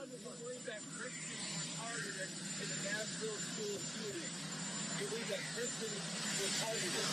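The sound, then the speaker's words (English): A loud, steady roar of a great big old helicopter fills the background throughout, with voices talking over it, partly masked by the engine din, as President Biden is asked about the attack on Coventry Christian School. “And again, it was recorded with a great big old noisy helicopter in the background.”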